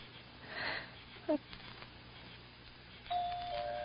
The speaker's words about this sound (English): Go on, push the bell.